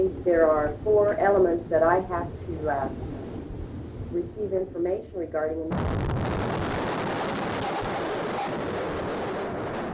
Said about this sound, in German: Die Explosion zerreißt die morgendliche Ruhe am Alfred Murrah Building. Noch in einer Entfernung von 50 Kilometern ist die Erschütterung zu spüren.